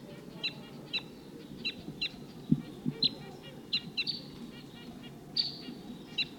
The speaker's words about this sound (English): Wild. Wild bird tooping. Sounds like there's another flock of the same call type around here somewhere.